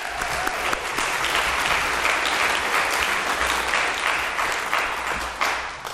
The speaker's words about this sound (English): So a round of applause for all of you.